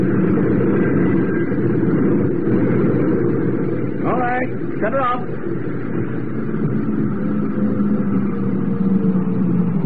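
A ship's engine runs with a steady, loud low rumble that holds constant for the whole stretch, broken midway by two short, wavering high-pitched squeals.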